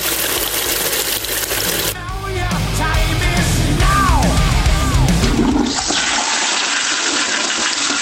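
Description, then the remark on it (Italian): A toilet flushes with a loud rush of water, then gurgling swirls and bubbling as the bowl drains, ending in a steady hiss of the tank refilling. “Pulisci il water con Moscovici.”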